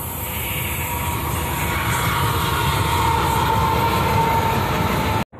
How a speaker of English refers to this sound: Okay, that was one of the coolest things I've seen. A very, very short train, but it was all just engines. I've never seen just an engine train before, so there's a first, right?